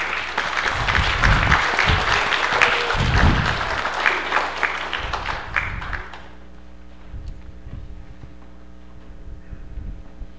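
A church audience claps to welcome a newly baptized person, a dense, steady burst of applause lasting about six seconds, then it quickly fades, leaving a low hum and a few scattered soft thumps.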